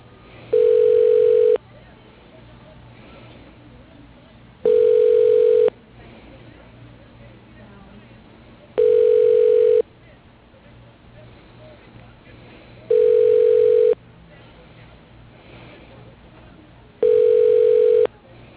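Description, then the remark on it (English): A phone line rings back five times during a call transfer, each steady mid-pitched tone lasting about a second and a half, separated by regular pauses of a few seconds over a faint line hiss. “Please hold while I transfer you to Justin Cleveland.”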